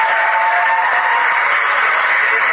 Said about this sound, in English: All right, so some boos and cheers there.